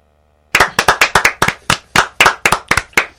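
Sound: clapping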